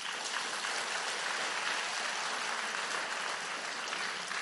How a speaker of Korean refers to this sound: 박수 한번 치세요.